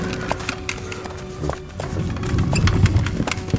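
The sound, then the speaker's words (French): Horse hooves clop in a quick, uneven rhythm over a low rumble that grows heavier toward the end, as horses pull war chariots carrying powerful lords; no one speaks. “Nos seigneurs les plus puissants montent sur des chars de guerre, tirés par des chevaux.”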